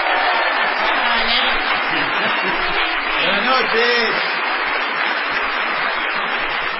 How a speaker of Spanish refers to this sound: No menos inmerecida será la ovación tributada a ….